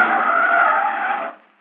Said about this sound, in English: look out, here comes a car.